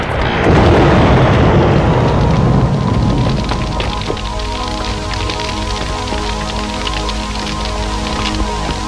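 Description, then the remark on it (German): A large fire of a burning hacienda and barn roars and crackles loudly and continuously, with a dense low rumble early on giving way to steady sharp pops and snaps throughout. “Die Hacienda und die Scheune standen in hellen Flammen.”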